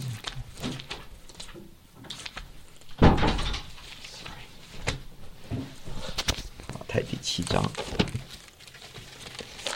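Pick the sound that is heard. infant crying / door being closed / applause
door being closed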